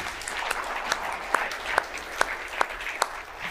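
A room full of people applauding, a dense steady patter with a few sharper claps popping out at a regular beat. Moderately loud throughout, with no voices.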